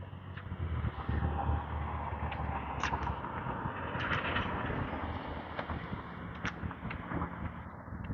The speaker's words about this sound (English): Helicopter's still buzzing around.